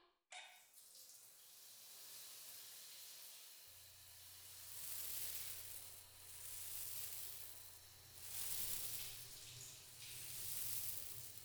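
shower water spraying

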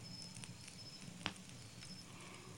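crackling campfire

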